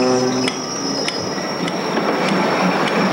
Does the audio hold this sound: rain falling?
no